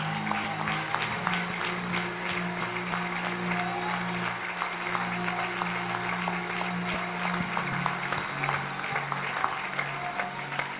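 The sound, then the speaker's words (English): An audience claps to the Lord steadily for about ten seconds, a dense, even patter of many hands over a low sustained tone, with no voices standing out. “Let us clap to the Lord.”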